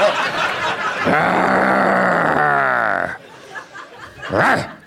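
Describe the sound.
A woman's voice imitates a growl: one loud, gravelly, drawn-out snarl lasting about two seconds that sinks in pitch, followed by a brief quieter vocal flourish.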